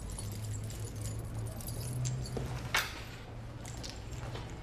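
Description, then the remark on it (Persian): A few quiet metallic jingles of a locker key on a ring as it is handed over, with a brief clink partway through, over a steady low hum. No one speaks. “کلید کمدتو تحویل بده.”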